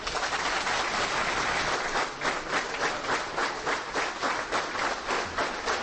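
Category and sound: crowd, prolonged applause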